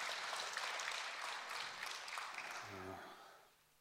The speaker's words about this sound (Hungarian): Hú, de jó volt ez a dal, köszönjük. Thank you very much for the song. It was really good. Nyugodtan lehet tapsolni. You can clap.